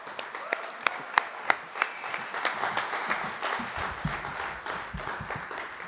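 A poetry slam audience bursts into applause as the next poet walks to the stage: a few sharp, separate claps at first, then quickly swelling into dense, steady clapping from many hands that carries on at full strength.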